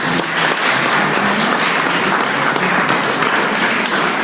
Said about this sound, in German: Vielleicht einen Applaus für Herrn Denninghoff.